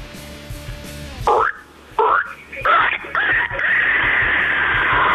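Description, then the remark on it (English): A man imitates a pig, letting out several loud, rough oinking snorts in short bursts, then a longer drawn-out grunting squeal at the end. “I've been working on the pig impression.”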